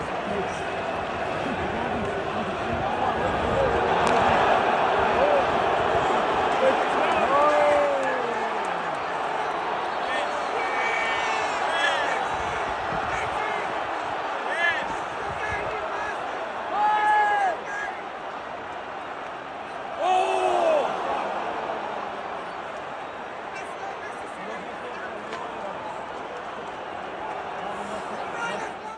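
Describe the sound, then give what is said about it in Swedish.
A loud, dense stadium crowd roars continuously at an Australian football match, with shouts and whistles rising above the din as Victory fans surge onto the pitch. Several brief swells of yelling punctuate the steady noise. “Ja, som sagt, supporterna kastar in någon form av pyroteknik och sen skickar målvakten tillbaka det på läktaren och då blir de skogstokiga och springer in och de träffar målvakten med något föremål i huvudet.”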